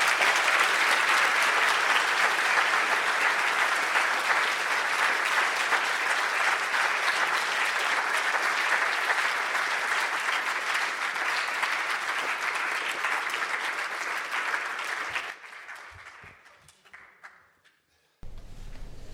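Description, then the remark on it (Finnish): Sustained audience applause welcoming a speaker, a dense, steady clatter of many hands clapping for about fifteen seconds, then thinning out into a few scattered claps before fading away. “ja ehdotan, että toivotamme puhujamme lämpimästi tervetulleeksi tänne aplodien kerran.”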